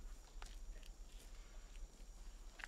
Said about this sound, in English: Denny pushes himself off the wall and cautiously steps along a set of wide steps.